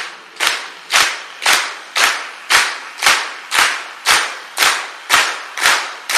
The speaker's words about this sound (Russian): И давайте похлопаем. Должен быть как выстрел, очень резкий и одновременный. Поймайте этот ритм.